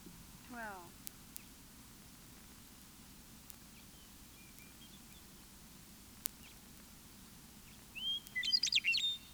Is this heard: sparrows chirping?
yes